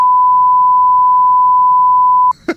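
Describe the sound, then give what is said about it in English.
A loud, steady pure-tone censor bleep covering speech holds for over two seconds without wavering, then cuts off abruptly, followed by a brief burst of voice at the very end. “And it's a long beep.”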